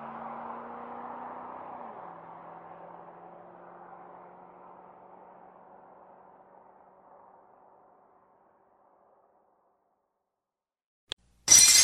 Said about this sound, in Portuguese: Que merda! Este já é o segundo copo que eu quebro hoje.